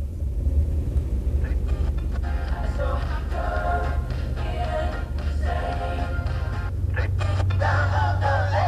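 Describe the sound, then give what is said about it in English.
A car drives steadily, its low engine rumble and road noise filling the whole stretch at a constant, fairly loud level, with faint muffled sounds drifting over the drone. “Guess I'll just pick up my walking papers, get in my car, and drive myself insane.”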